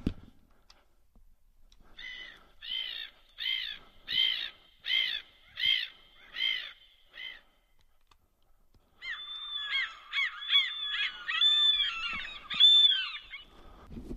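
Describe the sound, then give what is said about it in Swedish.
Seagulls cry out in a quick series of about eight sharp, nasal calls, then break into a denser, overlapping squawking chorus, loud, with no voices. “Då vet jag ett bra recept. Måskrik och ….”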